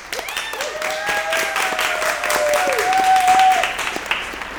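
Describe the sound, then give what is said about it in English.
An audience applauds its host steadily and loudly for several seconds, a dense wash of clapping with a few whistles and cheers rising through it. “Let's have some big applause for our host”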